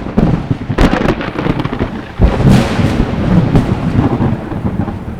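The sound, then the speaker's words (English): Loud thunder rolls continuously for several seconds, a deep sustained rumble punctuated by a few sharp cracks, with a steady hiss like rain underneath. “Then Michael prayed to God, and the Lord, in answer, sent thunder and lightning out of the heavens.”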